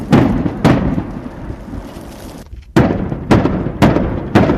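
Combat explosions from fighting several kilometres away, heard in Sudzha, boom out in an irregular series, about six heavy blasts, each hitting sharply and then rumbling away over a low, continuous background roar.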